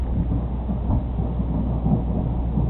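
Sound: thunder rumbling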